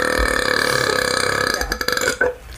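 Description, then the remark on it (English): A long, loud, rumbling burp drawn out for over two seconds, breaking up into a rattling, uneven finish at the end. “Cola and you're smoking a blunt, you're gonna have some burps and some coughs.”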